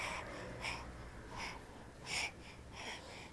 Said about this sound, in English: You panting awfully hard. What are you doing? What's that? What's that? You gonna get yourself dizzy. You gonna get dizzy. You gonna get dizzy. You still gonna get dizzy.